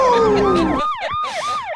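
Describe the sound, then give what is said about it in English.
A loud electronic siren sound effect sweeps downward, then breaks into a fast, rapidly repeating warble, like an emergency vehicle yelp, clear with no voices. “I said it would be kind of funny if you turned him into a siren because the next one you played after that was that.”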